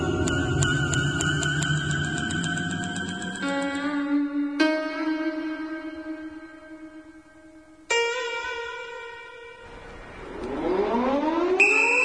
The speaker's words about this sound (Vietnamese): còi báo động trong trại hú lên từng hồi, chen lẫn với tiếng quát tháo và tiếng giày đinh của bọn lính gác chạy nghe rầm rập.